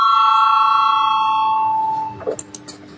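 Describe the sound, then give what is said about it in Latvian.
A chairman's bell rings once before a vote, with a long, steady ringing tone that slowly fades over about two seconds, followed by faint rustling and a few soft knocks. “Zvanu, balsosim par 43. ministra kabineta priekšlikumu.”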